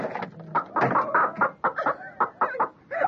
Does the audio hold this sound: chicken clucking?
yes